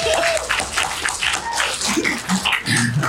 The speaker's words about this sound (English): Round of applause for that joke